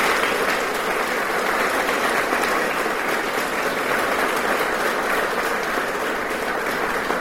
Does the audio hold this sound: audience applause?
yes